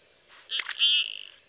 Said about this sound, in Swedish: Den har ett flyktläte som låter lite som många andra dykänder, men så kan den också låta så här lustigt knirkigt. Det här är en kärlekskrank kniphane om våren.